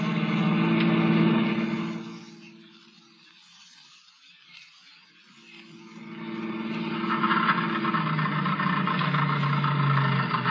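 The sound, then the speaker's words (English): A car engine runs loudly, then falters and nearly dies for a few seconds before catching and roaring back, sputtering as the car runs out of gas. No one speaks. “Well, that's the end of the gas.”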